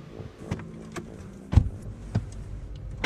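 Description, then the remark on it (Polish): A car engine hums low and steady as the vehicle drives up a slope in the village of Zubowice Kolonia near Zamość, Poland, heard from inside the cabin, with several sharp clunks and rattles scattered through. No one speaks. “Podjeżdżają po wzniesienie i zaraz wezmę ją sobą właśnie na luz i na hamulcu zatrzymam i zobaczymy, co się będzie działo.”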